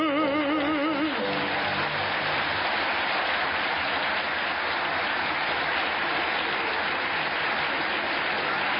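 A burst of audience applause, steady and loud throughout, with a brief wavering sung or voiced tone fading out in the first second before the clapping takes over.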